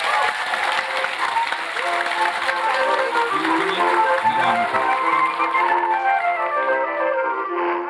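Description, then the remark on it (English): An audience applauds its guests steadily for several seconds, a dense wash of clapping with some cheering mixed in, then it thins out and fades away toward the end. “So round of applause, please, for our guests, for yourself,”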